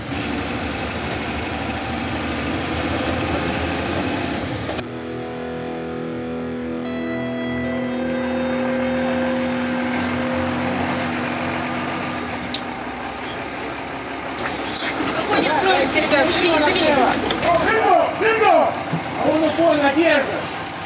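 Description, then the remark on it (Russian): A bus engine idles with a steady, low droning hum throughout. Toward the end, voices start loudly ordering people off the bus and into a column of twos. “Быстрее, быстрее, с автобуса, колонны подвое, здесь выстроили.”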